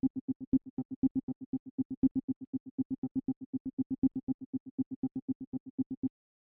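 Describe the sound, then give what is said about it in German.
A dry synthesizer, with its delay and reverb switched off, plays a rapid, steady stream of short, plucky notes at a constant pitch, each cut off sharply with no echo or reverb tail, loud with no voices. “Ich glaube, damit das deutlicher wird, schalten wir das Delay mal aus.”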